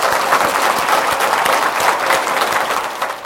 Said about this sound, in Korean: 원장님께 박수로 한번 감사를 드리겠습니다.